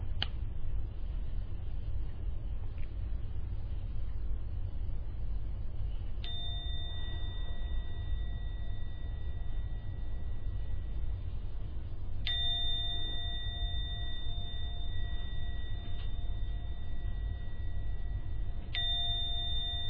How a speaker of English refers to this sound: I'm going to ring the gong 3 times. Please listen to the sound of the gong. And only when the last ringing starts to vanish, only then open your eyes at the 3rd ringing of the gong.